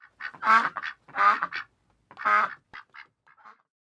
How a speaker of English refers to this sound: A duck's quack doesn't echo, and no one knows why.